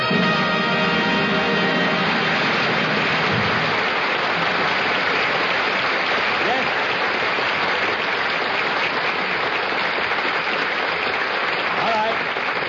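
Studio audience applause: a dense, steady wash of many hands clapping, loud and sustained for about twelve seconds, with a faint tonal hum underneath in the first few seconds.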